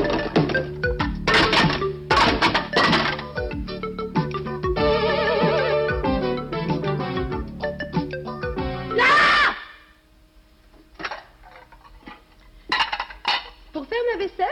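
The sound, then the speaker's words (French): Dishes and cutlery clatter and clink busily for about nine seconds, then the noise drops away, leaving a few scattered knocks and clinks near the end. “La vaisselle, regarde.”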